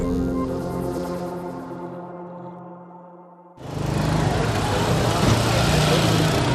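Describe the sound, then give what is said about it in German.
An engine idles with a steady droning hum, then the scene cuts abruptly to a loud, dense wash of traffic noise at a street intersection in Nairobi, Kenya, where drivers of simple taxis, hardly any younger than 10 years, wait for customers, with no clear voices. “Eine Straßenkreuzung in Kenias Hauptstadt Nairobi. Hier warten die Fahrer von einfachen Taxis auf Kunden.”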